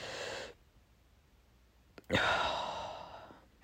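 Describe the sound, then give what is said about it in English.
A slow, deliberate controlled breathing exercise for falling asleep: a soft airy exhale fades out, a pause of near silence, then a longer, louder breath drawn in, like a deep sigh. “Controlled breathing. Place one hand on your stomach and the other on your chest. Exhale and inhale.”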